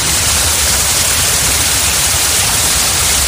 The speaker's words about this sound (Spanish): Pues escucha, Pilar, porque el agua ha vuelto a correr por las cascadas de la montaña.